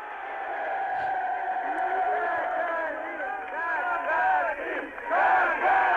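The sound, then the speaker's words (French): A large crowd in the streets of Moscow chants Gagarin's name in unison, celebrating his return from space. Voices rise and fall in repeated rhythmic calls, dense and loud, swelling toward the end. “On entend ce nom scandé par la foule à Moscou, donc, où Gagarine arrive le lendemain.”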